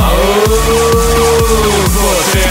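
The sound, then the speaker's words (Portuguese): A powerful modified car engine from Marau, Rio Grande do Sul, roars loudly, revving in quick repeated bursts about twice a second with a harsh, droning growl and no voices. “Aí sim tem pressão, aí sim tem potência.”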